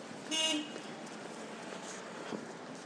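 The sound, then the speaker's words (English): A short, bright car horn honk rings out early, then fades into a steady background of street traffic hum with faint rumbles. “Beeping going on there.”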